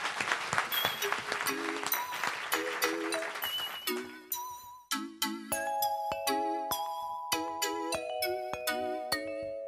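A crowd claps and cheers for the first few seconds, the applause thinning out as a bright, chiming melody of bell-like keyboard notes takes over and carries on alone.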